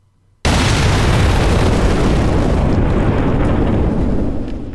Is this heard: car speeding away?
no